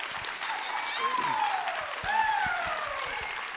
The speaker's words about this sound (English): Okay, so thank you all so much for the week, and thank your department. Can we just give our behavioral scientists an applause?